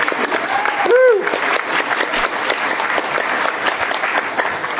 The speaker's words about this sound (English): They deserve a real round of applause for all that they have done.